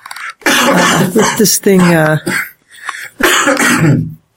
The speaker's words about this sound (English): hacking a lung out. I've had a cough for a little over a week, and hopefully it goes away soon.